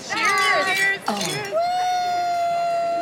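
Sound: glasses clinking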